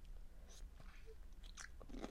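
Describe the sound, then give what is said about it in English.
Front teeth bite and crunch into a pickle, with a few crisp, uneven crunches over a couple of seconds. Fairly quiet, with no talking. “That was a bad crunch.”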